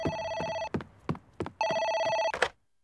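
A telephone rings in two loud, bright electronic bursts, each about 0.7 seconds long, separated by a short gap with faint clatter, then stops abruptly.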